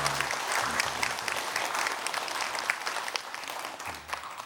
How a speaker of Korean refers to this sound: 또 가정에서 코로나로 인해 가정에서 영상 예배 드리시는 성도님도 많이 계시는데 하나님의 특별한 또 위로하심, 치료하심 그리고 축복하심이 함께 하시도록 우리 좌우에 계신 분과 또 영상으로 예배 드리신 모든 분들을 포함해서 우리 한번 격려의 박수로 한번 하시겠습니다.